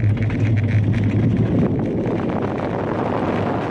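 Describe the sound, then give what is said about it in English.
A roller coaster ride at Fuji-Q Highland in Japan with no screaming, as screaming on rides was banned during COVID-19, with two mask-wearing park executives riding: a steady, loud roar of rushing wind and low mechanical rumble runs throughout, and no voices are heard. “This year, during the summer of COVID-19, amusement parks in Japan have banned screaming on rides. What you get instead is this.”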